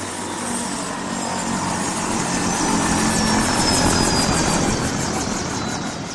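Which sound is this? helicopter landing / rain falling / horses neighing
helicopter landing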